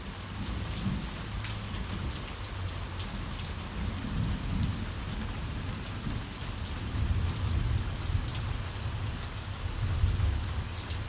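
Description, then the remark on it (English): Steady rain hisses down across the whole recording while low, rolling thunder rumbles underneath, swelling and fading in long waves. No voices, just the continuous downpour and storm. “Isn't it interesting how, even for me, even the animals, when it starts to rain with the thunder and the lightning, we all become quiet.”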